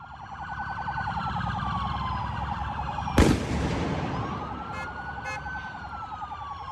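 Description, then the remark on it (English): Police sirens wail and sweep over a rumbling street scene in Chicago as people pelt police with fireworks; a loud firework bang cracks out, followed by a couple of fainter pops as the sirens keep going. “Last night, I told you about those donuts that were being performed by vandalist drivers, and then the cops show up, and then they start pelting the cops with fireworks.”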